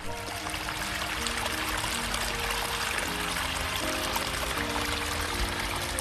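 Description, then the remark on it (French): A steady stream of water flows and gurgles continuously, fairly loud, with bubbling trickles layered over a broad rushing wash and no voices. “Et la voilà dans un ruisseau avec mille autres gouttes d'eau.”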